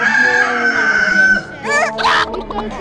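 A rooster crows loudly, one long drawn-out call that rises, holds, then breaks into a wavering, cackling finish, with no talking over it.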